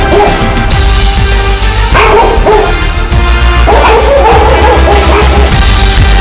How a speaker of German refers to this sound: Weg mit dem Hund.